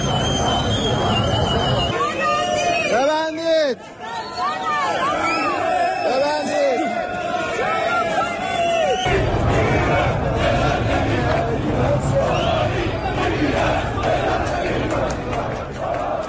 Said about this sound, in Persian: ویدیوهای منتشر شده در شبکه‌های اجتماعی نشان می‌دهد روز دوشنبه تجمعات اعتراضی جدیدی در نقاط مختلفی از بازار و مناطق مرکزی شهر تهران برپا شده و شعارهای اعتراضی علیه وضع اقتصادی ایران و حکومت سر داده می‌شود.